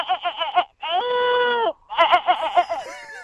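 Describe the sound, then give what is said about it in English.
A person imitates a goat with loud bleats: quick wavering bursts, one long sustained bleat, then another rapid warbling run, all done by voice with no other sounds. “A goat?”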